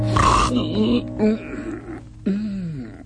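A man sitting up suddenly in bed lets out a loud, rasping snore that opens with a noisy burst, then trails into a few low, wavering grunts and groaning breaths over about three seconds.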